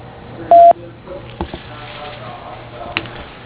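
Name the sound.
voicemail recording tone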